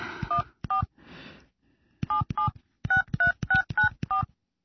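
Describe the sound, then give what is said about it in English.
A cell phone keypad beeps out a quick series of dialing tones as someone calls to check voice messages, a couple of short bursts followed by a steady run of about seven evenly spaced beeps, clear. “Oh, where did I put my cell phone? Oh, here it is. I better call and check my messages again.”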